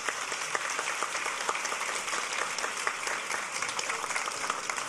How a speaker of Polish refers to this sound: Wielkie brawa, szanowni państwo, raz jeszcze.